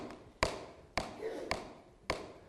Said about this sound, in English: Again, Jesus talking, he says, behold, I stand at the door and knock. And that's not just a one-time knock. It's a continual verb. Knock and knock and knock and knock.